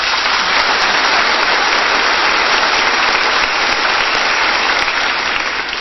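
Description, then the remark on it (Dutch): A crowd at the end of a service claps steadily for a trumpet player, a dense, even wash of many hands that stays loud from start to finish, with no voices rising above it. “Ja, nog een applaus vanaf.”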